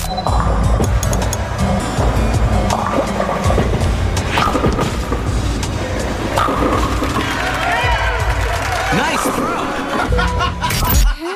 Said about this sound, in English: In 5th place for Dave Ranks, the sounds of different games in Wii Sports, it's bowling.